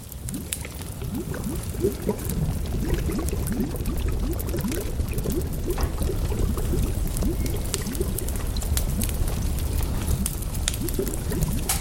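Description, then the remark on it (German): A thick brew bubbles steadily in a vessel on a heavy, worn wooden table in the middle of a room, a dense stream of gurgling pops and blips continuing without pause, with no voices. “Ein wuchtiger, abgenutzter Holztisch steht in der Mitte des Raumes, vollgeladen mit Gefäßen und einem blubbernden Gebräu.”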